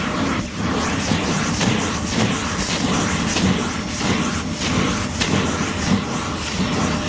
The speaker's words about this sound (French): Alors là, on va déjà démêler la chevelure, on va bien démêler, et là on va venir passer l'aspirateur, on va commencer en bas de nuque, et on va remonter.